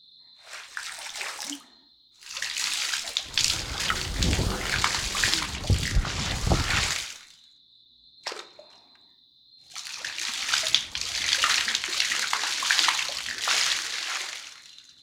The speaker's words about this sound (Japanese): 事前に頭皮や髪についた汚れをお湯で落とすことを言います。湯洗いをすることでシャンプーの泡立ちが良くなったり、毛穴に詰まった皮脂がふやけて落ちやすくなったりするんですよ。